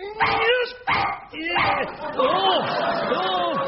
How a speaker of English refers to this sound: Quick, the flipping dog's still in there.